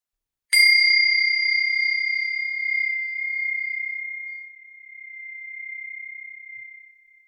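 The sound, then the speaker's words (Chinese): A single bell is struck once to begin the first practice exercise of a lesson, ringing out with a clear, bright tone that lingers and slowly fades over several seconds, heard alone with no talking. “如果你是在一个相对安静和安全的空间，也可以在铃声响起的时候，慢慢地闭上眼睛。”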